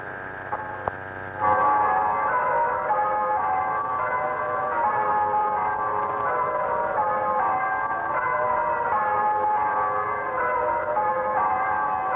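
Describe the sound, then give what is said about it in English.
The bells of the parish church of St. Peter and St. Paul ring out in their first full peal in 8 years, rung with ringers from surrounding villages: a dense, continuous wash of overlapping chimes that swells in after a couple of faint early strikes and carries on steadily, with no one speaking. “And there it is, the first full peal from the parish church bells that have been heard in 8 years.”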